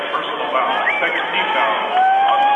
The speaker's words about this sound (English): So here comes a couple of the free throws for the Maloli, and you might be able to hear from the crowd behind me that she hit the free throw.